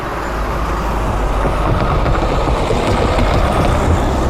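Outdoor ambience at a railway level crossing in Vendrini: a loud, steady rumble of rail and road traffic, continuous with no breaks and no voices.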